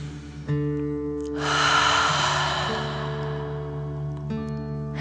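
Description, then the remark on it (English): A deep breath drawn in through the nose, then a long, forceful, breathy 'dragon breath' exhale rushing out, over a soft, steady musical drone. No one speaks. “Remember to breathe in through your nose, filling up your chest and belly, and then out, pretending you are breathing fire. Deep breath in and out.”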